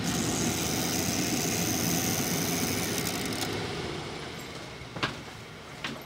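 A trimmer machine in a cobbler shop at 219 West Saratoga runs with a steady, dense mechanical whir and hum, easing off and quieting toward the end, followed by two short, sharp clicks.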